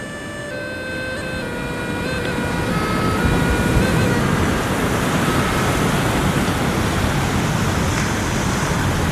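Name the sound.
baltic Sea waves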